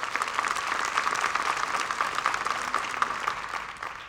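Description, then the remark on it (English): An audience in a church claps steadily for about four seconds, a dense, even wash of many hands with bright crackling texture and no voices over it. “Come on now, you can clap for that.”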